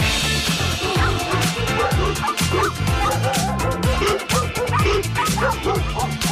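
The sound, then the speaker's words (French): A loud, dense chorus of several dogs barking and yipping over one another, with rapid overlapping barks and occasional high whimpers filling the whole stretch without a pause. “Nos amis les chiens sont les premiers auditeurs de Laetitia Barlerin le dimanche matin.”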